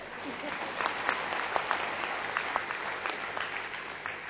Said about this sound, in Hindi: Friends, इसमें तो एक बड़ा ताली बनता है.